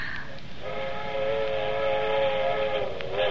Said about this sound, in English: That's what I like best, them train whistles. To remind you of other places. You hear them all night. Don't you love the sound of it? It's scary, kind of.